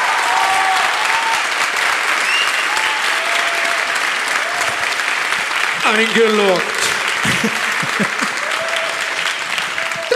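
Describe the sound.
A studio audience applauds to vote for the first of three questions, one about Mallorca, in a steady, dense wash of clapping that lasts the whole clip, with a man's voice briefly speaking over it partway through.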